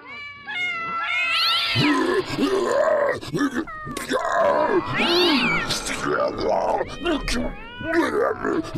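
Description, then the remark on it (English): A crowd of alley cats and domestic cats, led by a cat named Mr. Fluff Nuggets, meows and yowls all at once, overlapping wails and drawn-out caterwauls rising and falling continuously, loud, with no pauses between calls. “Cats! Have you ever seen so many cats? Alley cats, domestic cats.”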